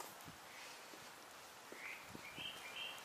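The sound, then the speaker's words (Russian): Birds sing with a few short, high chirps in the second half against a quiet outdoor hush with soft low thuds like footsteps. No one speaks. “Птички поют, слышно?”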